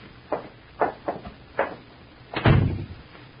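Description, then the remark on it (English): A door is handled and opened: a few short clicks and rattles of the latch, then a heavier wooden thud with a low rumble as it swings. No voices. “Here, allow me to open the door for you.”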